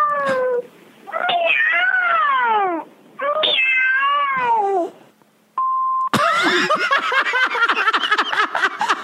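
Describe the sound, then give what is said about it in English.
Three drawn-out, descending cat meows play loudly as a phone voicemail's outgoing message, followed by a short steady beep and then a burst of people laughing. “That's her voicemail. Outgoing message. Three meows.”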